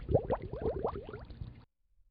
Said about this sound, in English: And so now, I'll go ahead and press the space key. And when I press the space key, you hear the bubbles. And every time I press the space key, that's a different event.